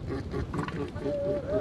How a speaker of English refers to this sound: That is a male northern elephant seal. It's the peak of their mating season right now, and reporter Lauren Summer of member station KQED visited one seal colony where researchers are learning how these sounds help the males make a love connection.